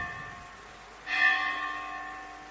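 bell ringing

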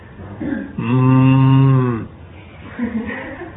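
cow mooing

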